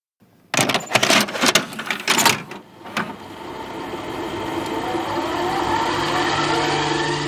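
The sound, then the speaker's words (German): Several sharp mechanical clunks and rattles as a cassette player's play button is pressed to start a fifth cassette, followed by a steady soft tape hiss and hum as the tape starts running. “Ich hoffe, jetzt sind alle bereit für die 5. Kassette.”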